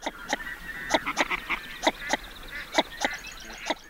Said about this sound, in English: That's the northern shoveler.